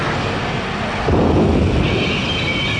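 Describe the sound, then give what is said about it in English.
A loud thunder crash from a lightning strike bursts out of a steady, rushing rumble about a second in, then keeps roaring heavy with no voices. “Crawl away from the lightning.”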